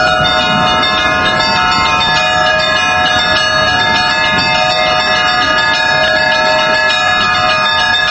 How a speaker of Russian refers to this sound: Может быть, у кого-то что-то там шевельнется внутри, придет к вере. Хотя бы даже если один придет к вере, благодаря колокольному звону, это уже хорошо.